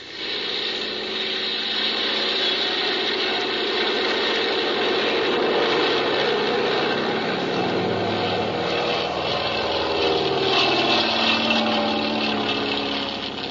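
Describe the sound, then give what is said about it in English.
A small propeller plane's engine roars steadily and loudly for the whole stretch, its pitch rising and shifting as it throttles up for takeoff, with no voices. “Well, I guess we can take off. Here we go.”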